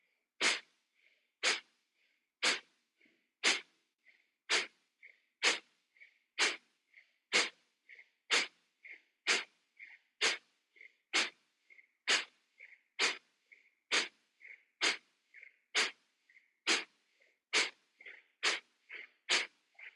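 Forceful nasal Kapalabhati exhalations, breathing into the belly, repeat in a steady rhythm of roughly one per second, about twenty sharp puffs, each followed by a faint, quick inhale, with no talking; part of a round of 36 pumpings.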